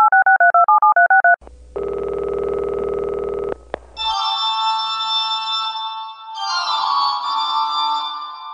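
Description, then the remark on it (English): Telephone line tones of an incoming call on the Weird Darkness dark line, with no talking: a rapid string of warbling two-pitch beeps, then a steady buzzy ring tone for about two seconds, followed by a bright, noisy electronic hum. “We got a quick call on the dark line, and it's a good one.”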